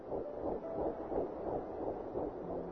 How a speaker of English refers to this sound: We all know that life is going to change when the baby arrives. What I didn't know is that my life would change as soon as I heard that heartbeat.